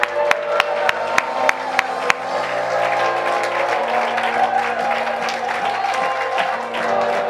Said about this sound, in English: Somebody shout hallelujah. Clap your hands with faith. Oh, clap your hands with faith.